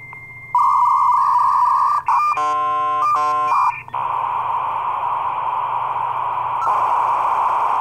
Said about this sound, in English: can we get a sound cue of a dial-up modem, please?